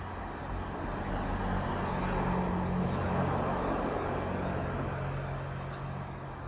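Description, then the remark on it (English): A car drives past outdoors on a beautiful day, its steady engine and tire rumble swelling to a peak midway and then easing off, with broad road noise throughout and no voices. “See the car?”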